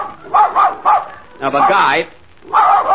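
A dog barks several times in quick succession, loud, with a longer run of yapping in the middle before a final pair of barks.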